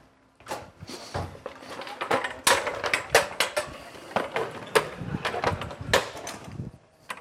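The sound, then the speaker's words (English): A couple of chairs being grabbed, carried and set down, with a steady run of irregular clattering knocks and thumps, fairly loud, with no clear talking. “I got to actually grab a couple of chairs.”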